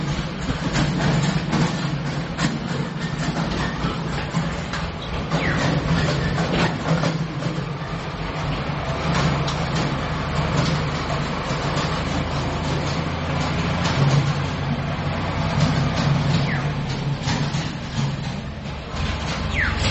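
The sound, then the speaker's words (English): A tractor drives by with a loud, steady diesel rumble and rattling mechanical clatter that holds for the whole stretch, with no one talking over it. “Wait, let the tractor go by.”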